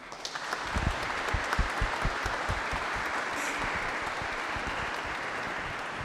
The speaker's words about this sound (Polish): Wielkie brawa.